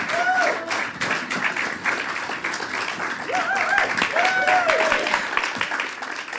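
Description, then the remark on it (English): A crowd applauds loudly and steadily as the comedy act Lazy Susan is introduced, dense clapping filling the whole stretch, with a few whoops and cheers rising above it. “So please give a big round of applause for Lazy Susan.”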